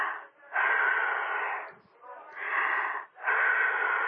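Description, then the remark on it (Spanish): Deep, loud breaths drawn in and pushed out in a slow rhythm, each a long airy rush with brief pauses between, and no talking over them, as a patient breathes hard on request during a medical checkup. “Por favor, respire fuerte.”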